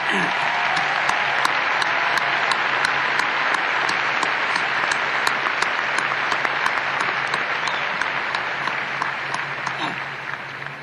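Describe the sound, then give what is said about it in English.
An audience applauds the faculty and other university staff with steady, sustained applause, dense overlapping claps that hold a fairly even loudness for about ten seconds before easing slightly toward the end. “But let's clap your faculty and all of the other people in the university who did what they did.”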